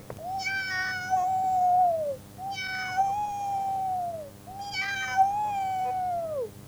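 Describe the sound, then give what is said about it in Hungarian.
A cat jumps down from a stove and lets out three long, drawn-out yowling meows, each about two seconds, loud with short pauses between, hissing fiercely and sounding agitated, with no talking. “Leugrott a macska a kemencéről, félelmetesen fújtatott nyávogott.”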